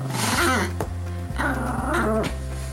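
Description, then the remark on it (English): A 75-pound Doberman and a 6-pound Chihuahua, Pablo, playing together, trading continuous growls and whiny, pitch-bending yowls, with a few sharp thumps as they scuffle. No voices. “It's really something to see a 75-pound Doberman and a 6-pound Chihuahua interact the way they do, and it's clear the whole time that the 6-pound Chihuahua kind of runs the show.”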